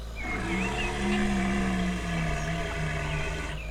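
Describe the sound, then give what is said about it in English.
A motorboat engine on Loch Lomond, a lake, drones steadily and loudly throughout, while a deep, wavering moan-like roar rises and falls over the hum for several seconds. “That motorboat must be upsetting her. Cut the engine,”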